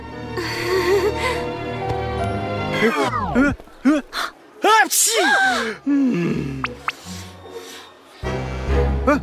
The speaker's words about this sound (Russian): Извини, у меня аллергия на перья. Будь здоров.